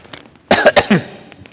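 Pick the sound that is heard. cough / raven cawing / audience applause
cough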